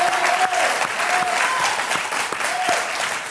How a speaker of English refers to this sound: That's why the Bible says, oh, clap your hands, all you people, shout unto God with the voice of triumph. Let's everybody clap in this place. Come on.